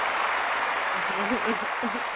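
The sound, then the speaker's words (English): Steady, dense applause from a crowd welcoming a guest who has just been introduced fills the whole stretch, with a voice faintly surfacing under the clapping toward the end. “That was your applause,”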